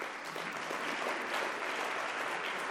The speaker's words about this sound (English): Please, can we give her a round of applause?